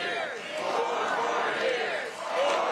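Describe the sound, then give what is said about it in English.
A political rally crowd cheers and chants "four more years" together, a dense, steady wash of many overlapping voices that dips briefly toward the end before swelling again, with no single speaker standing out. “A very unenthused 4 more years? I'm not convinced. I don't think the crowd's convinced.”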